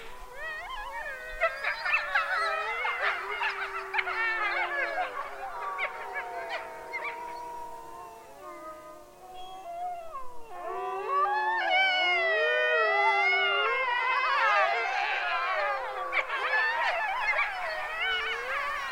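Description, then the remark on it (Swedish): A pack of animals howling together, many long wavering howls overlapping in a continuous chorus that dips briefly midway, then swells again louder and denser, with no one speaking. “Men du, vi lyssnar nu lite stund här. Hur det låter. De ylar.”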